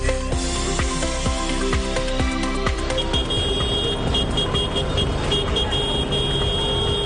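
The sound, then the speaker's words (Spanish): Farmers' tractor horns blare over a steady rumble of engines as the tractors drive through the center of Valencia, Spain, the honks overlapping in sustained, bright tones that shift in pitch partway through, with rhythmic thumps in the first half. “Y lo han vuelto a hacer agricultores en tractor, pitando y recorriendo el centro de Valencia.”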